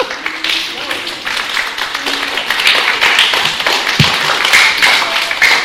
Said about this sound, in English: They're clapping for you because that is such a good point of all the different ways there are to serve, you know.